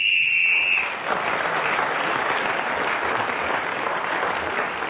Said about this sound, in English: Well, our final whistle from our messenger tells us that we have no more time.